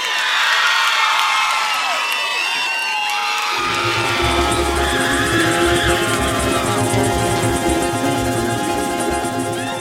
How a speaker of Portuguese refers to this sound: Cadê o gritinho da mulherada?